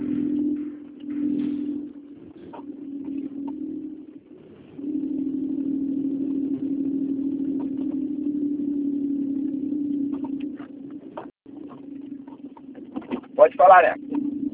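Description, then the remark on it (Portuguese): A car engine idles with a steady low hum that dips briefly a couple of times, with short brighter sounds breaking through near the end, as the driver stops the car. “Vou parar o carro aqui, peraí.”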